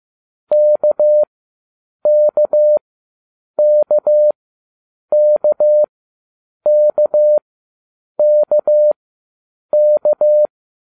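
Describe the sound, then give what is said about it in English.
A steady, clear electronic tone beeps out the Morse letter K, dash-dot-dash, repeated seven times at an even pace with short pauses between each group, as an exercise in a Morse code training lesson. No voices. “Listen carefully to the Morse code for the letter K, as in kilo, and try to memorize the sound.”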